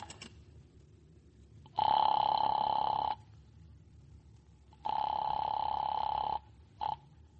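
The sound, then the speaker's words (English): A telephone rings in two long, buzzy bursts with a pause between, then a brief third ring cuts off, as a call is placed to an express company. The rings are fairly loud over a low background hum. “Use the phone. Yeah, that's right. I'll use the telephone.”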